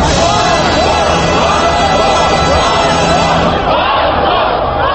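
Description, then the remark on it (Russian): A dense crowd of demonstrators on Triumfalnaya Square in Moscow shouts and chants loudly and continuously, many voices overlapping, while the Russian national anthem, played through loudspeakers at a neighbouring pro-Kremlin youth movements' rally, sounds faintly as sustained tones beneath the din. “Гимн России под крики демонстрантов на Триумфальной площади в Москве, вероятно, одна из самых красочных картинок этих событий.”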